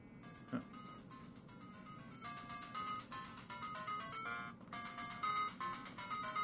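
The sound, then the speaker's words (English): A phone ringtone on an incoming call plays a bouncy, electronic arcade-game theme tune, its bright beeping melody running continuously for several seconds with no one speaking. “Ringing now.”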